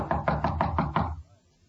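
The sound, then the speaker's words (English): Six quick, firm knocks on the door of a room at the end of a hall, in an even rhythm and fairly loud, followed by a short silence. “Knock again.”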